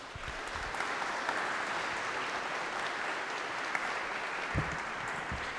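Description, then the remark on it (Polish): A crowd breaks into steady applause of welcome for a married couple from Wrocław, animators of the Czystych Serc (Pure Hearts) movement, a dense, even wash of many hands clapping at a constant loudness for several seconds, with no one speaking over it. “Na otuchę dobre brawa dla nich na powitanie.”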